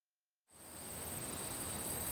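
After a moment of silence, a steady chorus of crickets chirps, a continuous high-pitched trill over a soft outdoor hiss. It stays even and fairly quiet, with no voices.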